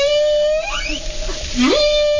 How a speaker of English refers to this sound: But if you are missing the outdoors, here's some whales.